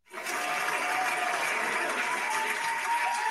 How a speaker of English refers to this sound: And I just want to give a shout out to Julie Marcus, which is the Pinellas Supervisor of Elections, and she deserves a round of applause. So let's go ahead and do that.